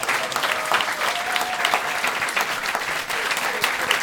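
Sustained audience applause, a dense, steady wash of many hands clapping at full volume for about four seconds, with a few faint cheers mixed in and no talking.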